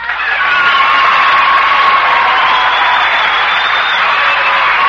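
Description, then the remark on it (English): A loud, sustained burst of audience applause with cheering and whoops greets the introduction of guest star Danny Kaye on a show, a dense steady roar of clapping and shouting voices holding at full strength throughout. “did you notice that Mr. Danny Kaye got more applause than Danny Kaye?”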